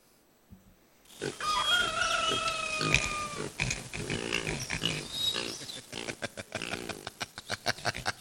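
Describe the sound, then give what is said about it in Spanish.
Several pigs grunt and squeal together in a loud, busy chorus, with high-pitched squeals early on giving way to rapid, choppy grunts near the end. “Por suerte para los chanchos, ahora hay albóndigas de pescado San José.”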